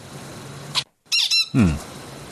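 bird squawking

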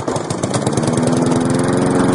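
lawn mower engine running

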